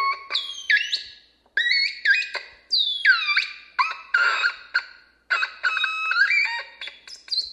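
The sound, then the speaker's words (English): A crackle box electronic instrument, played by an experimental electronic artist in a house in Garden City, squeals in loud, bending harmonic tones, chirping and sliding up and down in choppy bursts with brief gaps, sounding almost like squawking birds. No voices. “That instrument is called a crackle box.”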